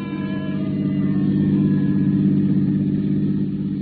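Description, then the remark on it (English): A car engine hums steadily, a deep, even rumble with a faint rising whine as the vehicle pulls away. No voices are heard. “I shut the door, headed once more for my car. The lady of the house was waiting. We took off.”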